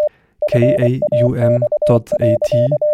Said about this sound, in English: This is a transmission of an encoded digital picture over a civil terrestrial radio network, a radio fax. You can decode it using your computer.